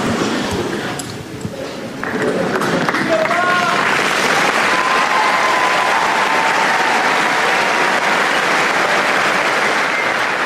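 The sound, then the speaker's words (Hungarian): A large crowd breaks into sustained applause, thanking Pope Francis for his words and his blessing; it swells after a couple of seconds and stays loud and dense, with a few faint tonal sounds and voices barely audible beneath the clapping. “Mai napon is tapssal köszönik meg Ferenc pápa szavait, az ő áldását.”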